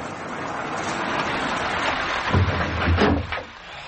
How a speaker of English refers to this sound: Here comes the rain.